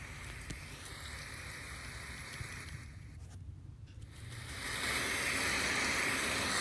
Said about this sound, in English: So Google will play that white noise throughout the whole night. Okay, Google, play rain sounds.